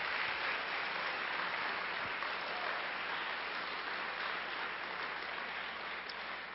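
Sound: round of applause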